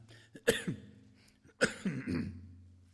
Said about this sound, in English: I want you to overlook my cough.